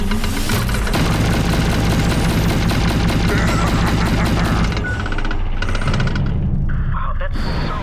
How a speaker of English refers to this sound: Is that loud for anyone else? Yeah, they're massive guns. Yeah, it's pretty loud.